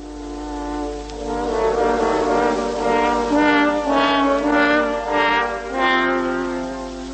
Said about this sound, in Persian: سه تا هورن با هم صدای گرگه رو در آوردن